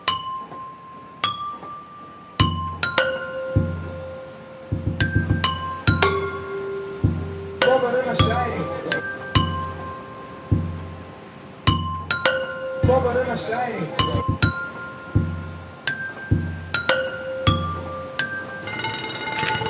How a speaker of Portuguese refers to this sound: Depois, um tapa num poste de metal. E outro.